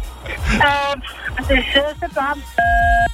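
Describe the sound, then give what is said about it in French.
A woman talks over a phone line, then she presses a key on her telephone, giving a single steady electronic beep for about half a second, clear and fairly loud, briefly cutting across her voice. “On dirait qu'elle s'est auto-censurée pour pas qu'on entende la marque. Elle a appuyé sur une touche du téléphone.”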